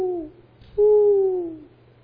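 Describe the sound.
A voice imitates a dove's mournful cooing: two clear hooting notes, a brief one followed by a longer, drawn-out coo that slowly slides downward.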